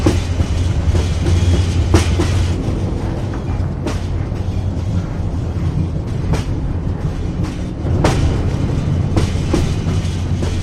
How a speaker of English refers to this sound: At the tracks, Deidre, holding the hoe, watches a freight train roll slowly by.